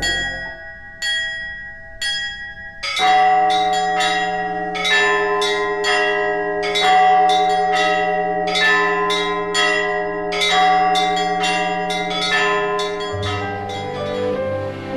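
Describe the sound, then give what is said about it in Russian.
Church bells ring out from a belfry in a lively, overlapping peal, with small bells striking in quick rhythmic clusters over sustained deeper tolls, loud and continuous with no voices. “Иконостас, полы, окна, двери, колокольня, прекрасная звонница.”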